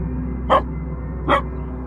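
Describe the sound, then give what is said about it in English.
A dog gives two sharp barks, a little under a second apart, standing out clearly over a low, steady background hum. No one speaks. “The dog lets out a sharp, rhythmic series of barks, its gas chamber police harness shimmering with data icons.”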